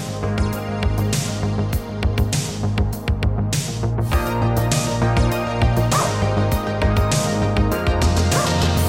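A pet dog barks repeatedly in sharp bursts, fairly loud, over a steady bed of layered tonal sound that continues throughout, with no talking.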